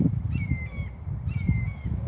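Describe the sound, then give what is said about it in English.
A hawk screams twice, each a drawn-out, steady, piercing cry lasting over half a second, separated by a short pause, over a low rumbling outdoor background. “I couldn't imagine being a rodent and you hearing that bird screaming and he's like trying to, he's making a noise to see if something's gonna move and it's gonna descend on you.”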